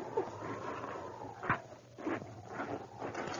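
dog barking

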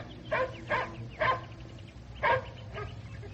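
dog barking

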